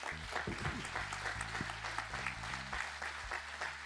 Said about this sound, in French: je voudrais remercier les gens de la technique et les gens qui passent les micros qui sont là, et je vous demande de les applaudir.